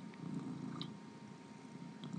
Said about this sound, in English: So, he's still purring away, as you can hear.